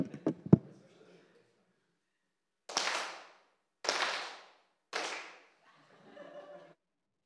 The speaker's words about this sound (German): Und man kann natürlich im Rhythmus klatschen. Jetzt bin ich mal gespannt, ob ihr in meinem Rhythmus klatschen könnt. Nochmal, noch eine Runde noch.